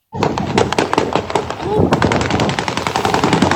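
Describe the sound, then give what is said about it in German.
Rapid bursts of warning gunshots, fired by police in a village in Dagestan, Russia, to disperse demonstrators, crack repeatedly in quick succession, loud and sharp, over a noisy background of shouting voices from a crowd outdoors. “In der russischen Kaukasusrepublik Dagestan sollen Polizisten in einem Dorf Warnschüsse abgegeben haben, um Demonstrationen zu zerstreuen. Die Schüsse sind auf einem Video zu hören”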